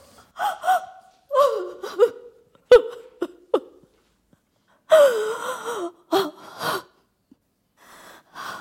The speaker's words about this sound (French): Oui, monsieur, je pleure. Cela ne m'arrive pas souvent. C'est peut-être le trajet qui me fait cela. N'essayez pas de me consoler.